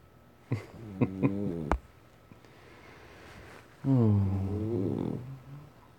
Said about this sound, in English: He only snores like this when he's really comfortable. And I've never seen him so comfortable.